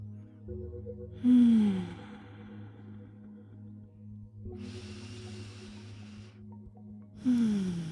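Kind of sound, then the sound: human body sound, breathing in and out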